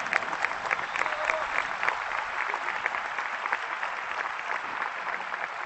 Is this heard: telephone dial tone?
no